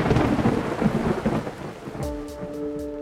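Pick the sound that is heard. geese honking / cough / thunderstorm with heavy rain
thunderstorm with heavy rain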